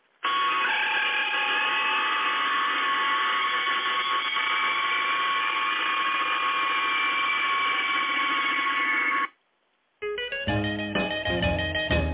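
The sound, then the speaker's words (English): A sci-fi transporter beaming effect: a loud, steady, shimmering hum with a faint high whine, sustained for about nine seconds before cutting out. After a brief silence, music begins. “Get the transporter up here.”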